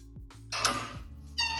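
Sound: cat meowing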